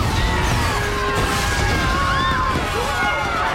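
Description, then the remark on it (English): The metal structure of a fairground swing ride collapses in a loud, sustained rumble, with sparks crackling and bursting like fireworks and thin whistling tones sweeping above the dense noise for the full few seconds. “Sparks fly out of the collapsing structure on the swing ride.”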